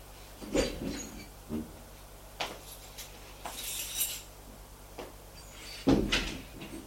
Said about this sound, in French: Ça lui paraît bizarre d'ouvrir la porte de son appartement.